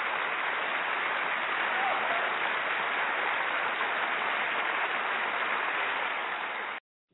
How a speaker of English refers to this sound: Thank you. Woo! We definitely got to clap it up, clap it up, clap it up.